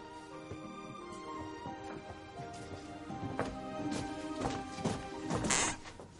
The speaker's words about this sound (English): Did you hear that? That stair squeaked. You know what we used to call that squeaky stair? The squeaky stare.